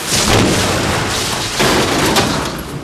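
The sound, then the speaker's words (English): A teleport transport beam effect as prisoners activate a teleport unit in a swivel chair to escape Daleks: a loud, dense rush of crackling, hissing noise that swells and then surges again partway through, with rumbling underneath and no voices. “Prisoners have activated transport beam.”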